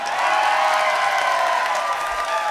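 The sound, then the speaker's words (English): A large concert crowd claps and cheers in a steady, dense wash of applause that holds at the same loudness throughout, with faint whistles and shouts mixed in. “The next song we're going to do for you tonight, you might as well clap now because you're going to like it.”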